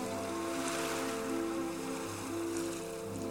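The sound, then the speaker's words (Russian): Soft, continuous wash of gentle sea waves on a quiet evening with a very light sea wind, a steady low rumble with a faint hiss on top, calm and even throughout with no voices. “Неукротимые беспокойные волны, казалось, погрузились в сладкую дремоту, и морской ветер дул очень тихо.”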